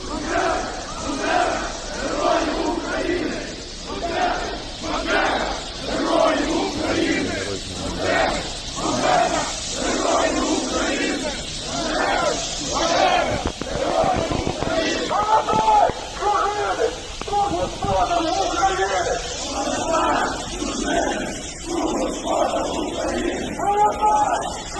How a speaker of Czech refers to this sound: V Kyjevě a v jiných městech účastníci tradičně u těchto oslav provolávali hesla o jednotné Ukrajině a uctívali Stěpana Banderu či Romana Šucheviče.